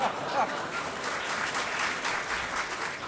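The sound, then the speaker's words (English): A crowd claps steadily and continuously, a dense wash of applause, likely mixed with laughter, that holds at an even level throughout with no single voice standing out. “If you laugh and applaud, it means you're terribly old, and we have to go terribly slowly for that.”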